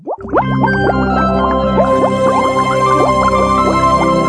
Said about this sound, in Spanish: El sonido de las burbujas, la efervescencia del pensamiento, la necesidad de encontrar respuestas.